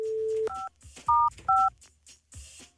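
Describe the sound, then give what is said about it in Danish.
A steady dial tone cuts off into three short, loud touch-tone beeps pressed at an uneven pace as someone dials a phone to get a line to a woman, with faint handling clicks and room noise between them. “Nå, nu prøver vi lige en gang til det her. Mm. Se om vi kan få en linje her.”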